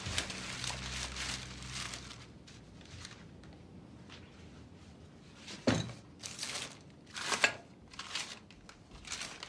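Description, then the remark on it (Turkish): Paper and plastic bags rustle and crinkle in bursts as shopping bags are emptied and items are pulled out and unwrapped, with a few soft thunks of objects being set down. No one speaks. “Torbaları boşaltırken biz neler almış görmüyoruz.”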